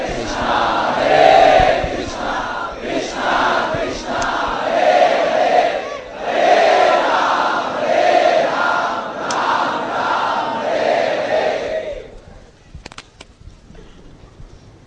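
A large group of voices chants a devotional kirtan together in loud, rhythmic repeated phrases that rise and fall steadily, then stops abruptly after about twelve seconds, leaving faint scattered sounds.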